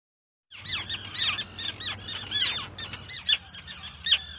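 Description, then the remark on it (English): A dense chorus of squawking, screeching calls from thousands of terns at an island seabird colony off the coast overlaps continuously, many birds calling at once, with a low background rumble like wind or surf beneath the din. “Every year, thousands of seabirds, terns, come to these islands off the coast of”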